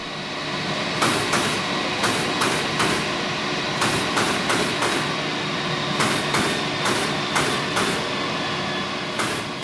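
In the production hall of an orthopedic shoe factory in Windisch, machinery hums steadily while sharp, clustered impacts strike in quick bursts as workers tack leather uppers onto soles, over a continuous grinding drone as the soles are ground.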